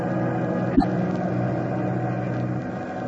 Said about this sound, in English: As our play continues, the giant bomber with its crew of four men is roaring eastward through the night.